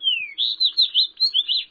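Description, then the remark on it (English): A fox sparrow, a visitor from the far north, sings a short, sweet phrase: an opening slurred whistle followed by a quick series of rich, warbling notes, clear, with no one talking. “When you step outside on a particularly sunny day this winter, even visitors from the far north, like this fox sparrow, may be warming up for the coming spring.”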